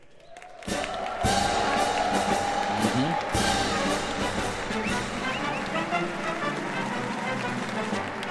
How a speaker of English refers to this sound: Vice President-elect J.D. Vance walked into an applause. He just shook hands with President Joe Biden and just took his stand.